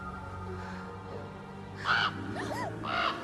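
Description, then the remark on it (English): In a retelling of Hocus Pocus, a crow watching the Sanderson sisters caws a few times, two harsh, raspy bursts with a shorter warbling call between them, fairly loud over a low, steady background hum. “Then they see the bird watching them.”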